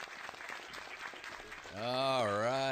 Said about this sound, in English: Applause. Oops. I'm a little rusty with the sound effects. Applause. Attaboy.